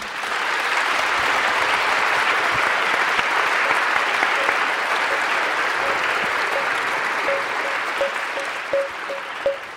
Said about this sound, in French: Donc je vous propose effectivement qu'on applaudisse bien fort Hervé Lebras, Agathe Ozen, Brice Lalonde et Pierre-Henri Gouillon.